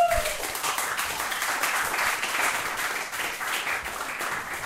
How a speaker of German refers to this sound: Einmal kurz einen Applaus für die Dame. Bitte. Ein Applaus für die Dame.